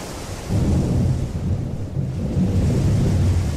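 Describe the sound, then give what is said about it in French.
A thunderstorm with heavy rain pouring steadily and violently, lashing palm leaves, and a deep, continuous rumble of thunder rolling underneath, swelling loudly after a brief quieter start and holding strong throughout. “L'orage rugit, la pluie éclate violemment, hachant les feuilles de palmiers.”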